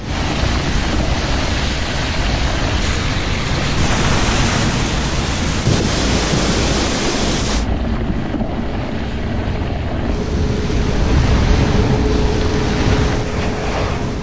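A geyser in Yellowstone erupts as superheated underground water bursts into the air, with a loud, continuous roar and hiss of water gushing skyward, sustained throughout, its texture shifting slightly partway through. No voices.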